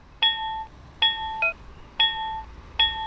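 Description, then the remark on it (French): An accessible pedestrian crossing signal chimes repeatedly as the pedestrian light turns green, signalling it is safe to cross, with bright electronic ding tones ringing out roughly every second, plus a shorter extra tone between, with no talking. “Et au moment où le feu sera vert sur les piétons, on va entendre une sonnerie.”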